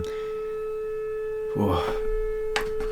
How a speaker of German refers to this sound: Jetzt geht ja der Alarm los draußen.